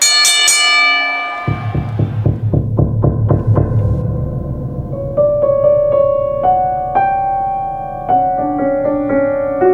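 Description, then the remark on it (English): A wrestling ring bell clangs loudly, first one ringing strike, then a rapid run of quick repeated dings, giving way to sustained, overlapping bell-like tones. No one speaks. “Don't get scared, because at the sound of the bell, it's Sinister Sightings time”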